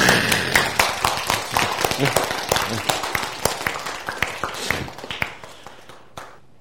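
An audience claps together, a dense burst of overlapping sharp claps at a brisk, irregular rhythm that gradually thins out and fades away over several seconds.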